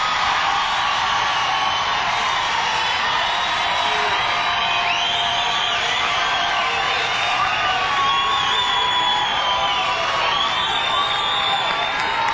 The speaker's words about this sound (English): Hey, let's have another round of applause for tonight's opening act,